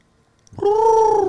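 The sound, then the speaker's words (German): A voice imitates a little owl's call: one loud, sustained, mid-pitched wailing note that rises slightly and holds steady after a moment of silence, with no talking. “Ja, dieses typische Käuzchengeräusch.”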